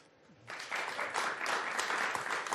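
Audience applause starts after a brief quiet moment and holds steady as a dense, crackling wash of many hands clapping, with no voices over it.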